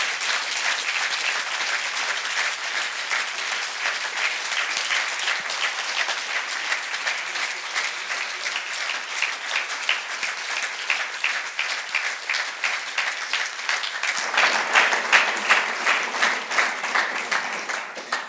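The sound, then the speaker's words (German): An audience applauds steadily for about eighteen seconds, a dense, even wash of many hands clapping that swells slightly louder near the end before tapering off. “Herzlichen Dank, geben einen nochmal Applaus und das dürft ihr.”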